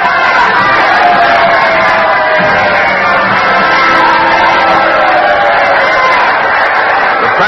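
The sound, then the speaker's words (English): A standing theater audience cheers and applauds in welcome as President Lincoln enters his box and acknowledges them, a loud, steady roar of many voices and clapping that holds without pause for the whole stretch. “The audience is standing. Mr. Lincoln is acknowledging the welcome.”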